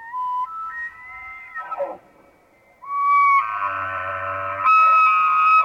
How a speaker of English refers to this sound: Just like the turning of aspen leaves, the sound of bugling elk identifies fall in Boulder County.